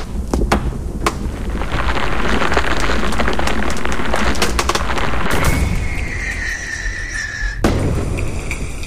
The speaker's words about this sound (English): The brothers get inside the shed and set light to the eBay firework.